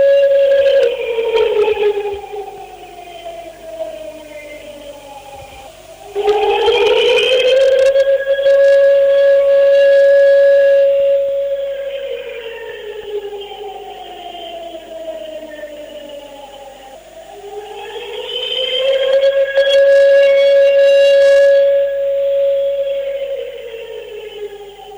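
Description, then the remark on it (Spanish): A loud commemorative siren, marking 25 years since the bombing of the AMIA headquarters, wails on its own, its tone climbing and sinking slowly in long sweeps, about three full rise-and-fall cycles with rich layered harmonics. “Escuchamos la sirena a 25 años del atentado contra la sede de la”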